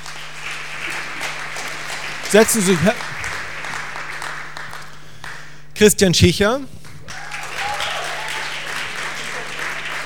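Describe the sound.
An audience applauds steadily for the whole stretch, a dense even patter of many hands, welcoming a speaker to a second panel titled Communities als Mittel zur Partizipation, while a man's voice speaks briefly twice over it and a low steady hum runs underneath.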